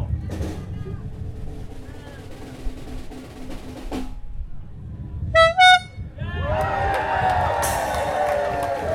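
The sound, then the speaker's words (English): Two loud, bright horn blasts ring out in quick succession over a murmuring outdoor crowd in Davis Square, the first honk opening a festival, followed by a swell of cheering and applause as the crowd noise rises. “Ladies and gentlemen, the first honk.”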